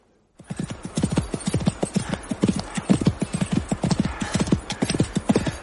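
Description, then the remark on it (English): Rapid, steady hoofbeats of a ridden horse clip-clopping at speed, loud, continuing rhythmically throughout without any talking. “If the horse can, I can.”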